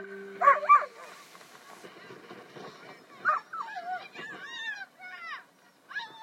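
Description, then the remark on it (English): A dog lets out two quick, sharp barks, then follows with a string of high, sliding whimpers and whines, over a faint murmur of a crowd in the background. “Dog's ready to go again.”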